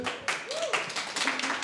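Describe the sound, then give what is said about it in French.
A short burst of applause from a small audience at a live show at the Rio cinema: dense rapid clapping, with a few voices cheering and whooping through it, steady in loudness for under two seconds. “On est chaleureusement applaudis.”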